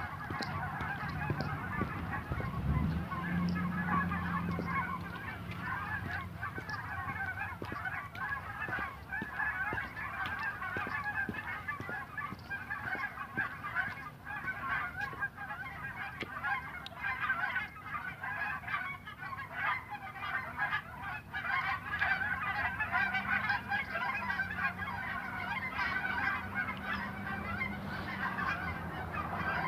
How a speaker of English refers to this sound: There's something about the sound. I don't know what it is, but there's something about the sound of a flock of geese flying overhead.